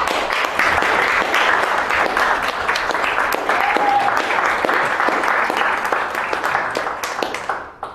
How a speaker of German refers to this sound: Ich freue mich ganz besonders und mein musikalischer Gast, der möchte sich selber vorstellen. Ich sage einfach mal erstmal Applaus für ihn.